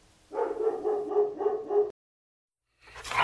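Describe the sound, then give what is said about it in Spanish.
A dog tied up in a garden barks in a quick run of about five yips and woofs, falls silent briefly, then starts barking again at the very end. “Un perro solo es una distracción para alcanzar tus metas.”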